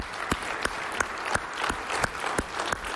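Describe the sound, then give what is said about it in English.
Event attendees applaud themselves steadily, a dense wash of clapping with sharper individual claps popping out every third of a second or so, sustained at an even, moderately loud level throughout. “Give yourselves a really warm round of applause, all right?”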